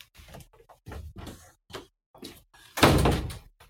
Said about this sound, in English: Let me close this door. Sorry.